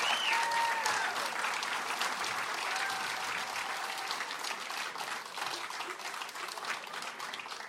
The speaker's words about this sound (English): Another round of applause for the ….